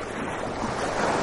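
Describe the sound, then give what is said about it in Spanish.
A steady, dense rush of Pacific Ocean waves mixed with blustery wind, loud and continuous throughout the short stretch, with no voices or distinct individual wave breaks standing out. “¿Este Pacífico que suena así? ¿A mar, a aire, a río, a animales?”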